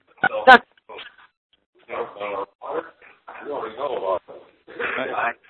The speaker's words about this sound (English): Yep, there's that dog. Hit star 6, whoever's got the dog.